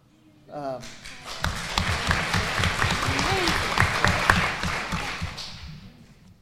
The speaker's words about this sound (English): So we applaud him for doing all of that and coming back.